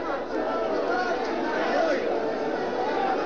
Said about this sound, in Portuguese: E o nosso microfone, esperamos, tenha captado o som, o ruído da multidão. Ele será bem mais eloquente de quaisquer palavras que possamos dizer.